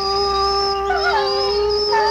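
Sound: wolf howling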